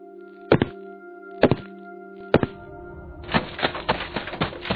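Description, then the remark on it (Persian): Three heavy, hollow thuds about a second apart, then a quick burst of running footsteps as a man hurries down the stairs from the floor above, two or three steps at a time, toward the exit of a dark apartment building, loud and uneven, with no voices. “صدای دویدن است. کسی از طبقه بالا به طرف من می آید.”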